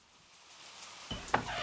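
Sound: rain falling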